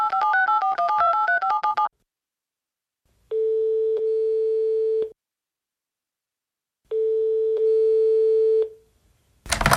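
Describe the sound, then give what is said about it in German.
A warbling electronic tone gives way to two long, steady mid-pitched telephone ringing tones, each about two seconds with a pause between, then a short burst as the line connects, as the Tiger & Loop Hörspielshow phones a boy's friend. No talking. “Dann rufen wir ihn jetzt an.”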